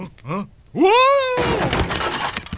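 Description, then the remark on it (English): A breakaway chair breaks apart with a loud, sudden crash and a splintering clatter that trails off, just after a voice cries out in a rising, drawn-out yell. “That's a breakaway chair. I'm supposed to do that.”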